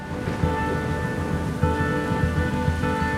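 Heavy rain pours steadily for a few seconds, with a low rumble of thunder beneath it and no voices.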